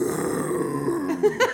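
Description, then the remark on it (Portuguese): A person imitates the roar of a winged, fire-breathing creature with a low, raspy, growling voice held for over a second, ending in a couple of short rougher bursts, fairly loud. “Ele soltando o urra dele, o rugido.”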